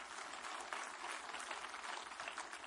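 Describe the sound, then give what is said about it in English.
An audience claps together in sustained, dense applause, a steady wash of many hands at an even loudness for the whole stretch, with no voices standing out. “Come on, give him a good clap on with you.”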